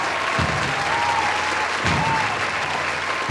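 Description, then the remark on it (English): A steady round of applause from a sizeable crowd, dense clapping filling the whole stretch at a fairly loud, even level with no voices rising above it. “Let's all just give a big round of applause for all 840 inhabitants of the dwelling.”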